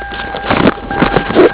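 A car engine turns over in a few uneven, rumbling chugs and bursts over a faint steady hum, with no one speaking.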